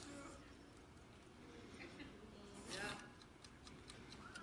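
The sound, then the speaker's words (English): A clock timer is twisted with a short scraping burst, then begins ticking steadily and quickly, the ticks soft but distinct over a faint background. “And I'm going to turn and set this clock.”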